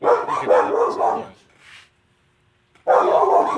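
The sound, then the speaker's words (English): Dogs bark loudly in a rapid, overlapping flurry at someone walking by through the fence, go quiet briefly with a faint yip, then burst into barking again. “Just someone walking by through the fence. Puppy!”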